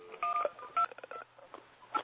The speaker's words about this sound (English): I was just waiting for the person to silence themselves. They had a weird phone sound going in the background.